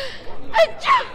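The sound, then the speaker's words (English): A single sneeze, an abrupt two-part burst with a breathy, gasping intake followed by a louder, slightly honking expulsion, all over in about half a second with no talk. “I only said Gesundheit.”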